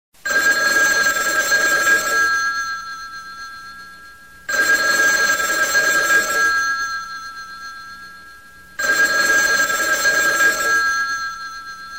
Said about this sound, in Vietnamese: Điện thoại reo khi trời còn chưa sáng, có lẽ là 2, 4 hay 6 tiếng gì đó. Tôi hộc tốc chạy xuống thang gác để nghe điện thoại đặt tận trong nhà bếp, đầu vẫn còn chính choáng trong cơn mê ngủ.